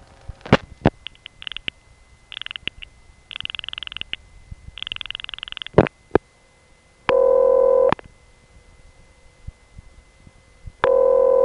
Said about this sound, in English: These ringtones were different from what I had ever heard before. For one thing, the ring was always very short, half the length of a normal ring, and it repeated more frequently. And the actual pitch of these ring sounds was kind of nondescript